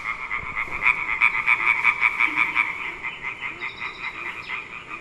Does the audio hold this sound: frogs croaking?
yes